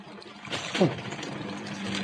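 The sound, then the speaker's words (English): Soft, steady trickling like running brook water, a faint continuous babble with small splashy fluctuations, heard off the port bow of a ship at sea, with no one speaking. “Sounds like a brook running down a hillside.”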